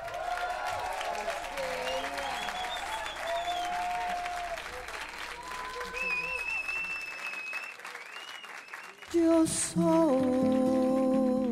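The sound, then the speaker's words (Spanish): An audience applauds steadily for about nine seconds to welcome a guest singer, a dense sustained patter of many hands with faint music underneath, then louder music cuts in over the last stretch. “Un aplauso para ….”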